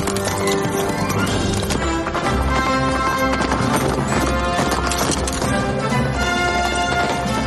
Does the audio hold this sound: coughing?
no